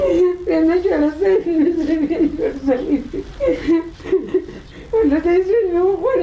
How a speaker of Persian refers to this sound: صدای گریه یکی از مادرانی که فرزندش توسط نظامیان استرالیایی به قتل رسیده است.